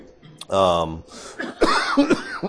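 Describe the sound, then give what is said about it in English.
A person clears their throat with a drawn-out voiced rasp, then lets out a few short, harsh coughs, with no talking. “And you're sick of hearing me cough.”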